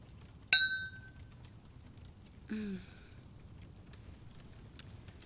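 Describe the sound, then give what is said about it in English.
A single bright clink of champagne glasses in a toast rings out near the start and fades quickly in a short shimmering tail, followed by a brief soft murmur and quiet background hiss. “Cheers.”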